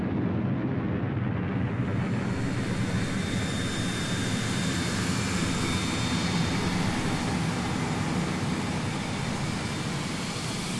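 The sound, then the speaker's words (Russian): Motors of bright-orange cargo drones flying over a training town buzz overhead in a steady, dense droning whir that holds at a constant loudness for the whole stretch, with no voices. “как шаттлы, словно маленькие муравьи, снуют по учебному городку, а над ним, жужжа моторами, словно пчелы, летят ярко-оранжевые грузовые дроны.”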